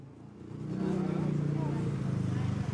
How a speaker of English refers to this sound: Next morning, heavy traffic in Maesot, Thailand.